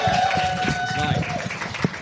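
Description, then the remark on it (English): An audience applauds the event's host and organiser at comedian David McIver's request, in a dense, steady wash of clapping, with voices and a sustained whistle-like tone running through it, for about two seconds. “Can we get a round of applause for Ellen for hosting and organising?”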